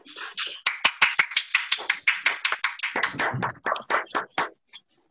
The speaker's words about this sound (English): Okay, round of applause there, folks. Round of applause. Come on.